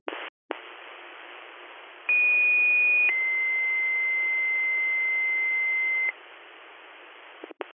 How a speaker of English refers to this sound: Department 5, Shimong. This broadcast is the last alarm being sounded for Tony LaRocque, past assistant chief, current commissioner.